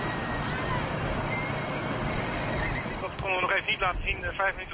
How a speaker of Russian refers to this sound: Лошади галопом скачут за тепло укутанными наездницами, все как одна, в едином завораживающем ритме.